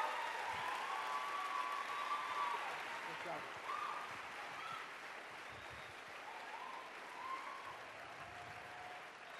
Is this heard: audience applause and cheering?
yes